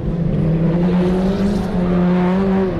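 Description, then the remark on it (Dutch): Race car number 699 on a wet clay track roars loudly and continuously, its droning pitch holding steady then edging upward, with rough crackling exhaust pops mixed into the revving. No one speaks. “699, denk ik, knal even mijn knalpijpen hier.”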